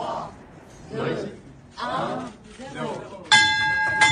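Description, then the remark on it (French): A loud, sustained ringing bell at the Paris stock exchange (Bourse de Paris), rung at 9:30 to mark the stock market listing of the Française des Jeux, bursts in abruptly near the end and rings steadily, after several seconds of voices and background chatter. “la traditionnelle cloche, a donc retenti, comme pour chaque nouvelle introduction en bourse”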